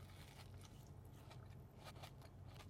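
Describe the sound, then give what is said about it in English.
Biting and chewing of a Dubai chocolate brownie with pistachio, with soft, moist squishing and a few crisp crunchy bursts repeating over a low steady hum, no talking. “They finally have the Dubai chocolate brownie. Let's try it.”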